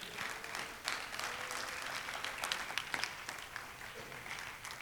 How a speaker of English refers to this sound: Clap your hands like you love him one more time.